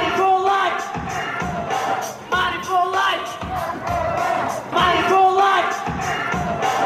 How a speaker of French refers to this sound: Battez-vous pour vivre, battez-vous pour vos droits, crie ce jeune avec la foule.